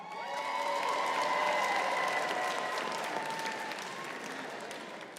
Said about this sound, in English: Who in here with their best friend? Clap.